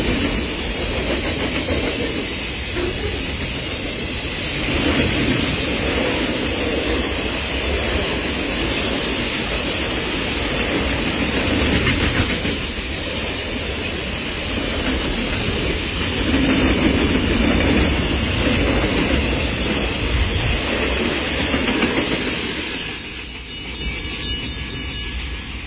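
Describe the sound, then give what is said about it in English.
A freight train rumbles past, its steady roar and rhythmic clickety-clack of wheels on rail joints filling the whole stretch without letup, easing slightly near the end. “Hate freight trains.”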